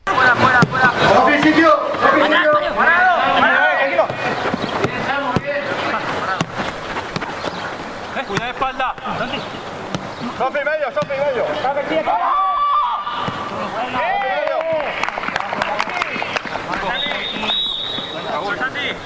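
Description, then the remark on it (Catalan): A Villarreal CF football match in progress during a goal play involving Santi Cazorla, Chukwueze and Paquito Alcácer, with several voices shouting continuously and loudly over background crowd noise. Scattered short thuds like ball kicks come through the din. “El que acabeu d'escoltar és una jugada, la primera, el primer gol, en el que Santi Cazorla rep una pilota en banda esquerra, encara al rival que en aquest moment era Chukwueze, toca curt, era Paquito Alcácer, que li torna la pilota a d'ell”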